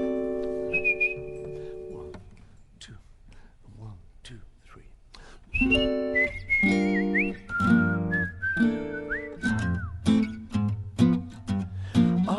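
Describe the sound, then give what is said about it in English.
Someone whistles a song melody, a brief phrase first and then a longer run of bright, sliding notes, fairly loud over a fuller background of voices or music. “Okay, I'll get this whistle right.”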